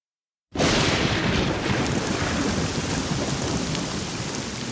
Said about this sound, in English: Oh, no! It's raining. Come on, everyone. Run!